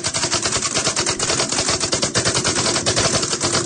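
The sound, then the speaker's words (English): Rapid, continuous keystrokes clatter in a fast, steady stream of sharp clicks, loud and dense with no pauses and no voices over them. “But you can at least hear, I guess, the way I stroke the keys.”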